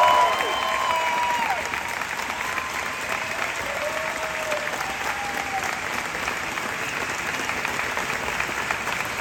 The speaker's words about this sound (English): And also, among the group, we have two members that were here on day one. How about a round of applause, everybody,